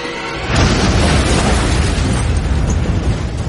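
car bomb explosion

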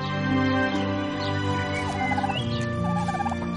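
turkey gobbling

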